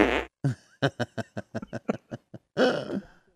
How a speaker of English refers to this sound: He should fart on Tom Brady.